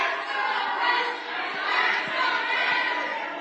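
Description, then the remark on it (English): A large crowd at a town hall meeting chants together, apparently "tax the rich", in a dense wash of voices, swelling and dipping in a loose repeated rhythm, with no single speaker standing out. “Chanting tax the rich, I guess. So again, you can see the crowd.”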